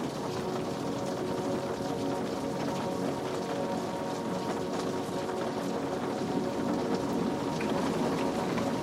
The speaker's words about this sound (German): Regen draußen klingt jetzt wie ein fernes Herz, das gleichmäßig schlägt. Tropfen für Tropfen.